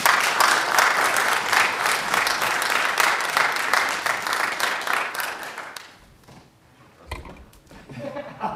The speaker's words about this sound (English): A round of applause for our newest members.